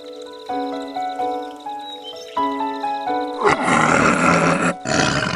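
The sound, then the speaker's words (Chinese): A tiger roars: a few seconds of drawn-out, rumbling growls give way to a loud, raspy full-throated roar that fills the last couple of seconds, with no one speaking. “哦，原来是老虎来了。”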